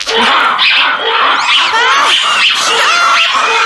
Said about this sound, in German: Mach das aus, das tut ja einen Ohren weh. Ihr habt Affengebrüll aufgenommen? Das waren aber keine kleinen Äffchen, sondern ziemlich große.